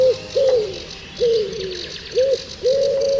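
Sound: wood pigeon cooing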